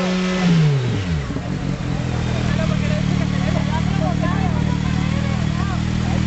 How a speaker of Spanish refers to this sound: El socialista Jaime Lisadesky acude con un sonómetro en mano a Plaza de España. Primero se mide el ruido en la acera próxima a los coches.